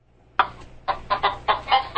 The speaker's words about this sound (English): That's that chicken alert. Is that it? Don't play the chicken alert.